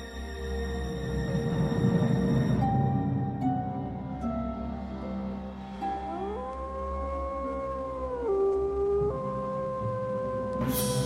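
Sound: lone wolf howling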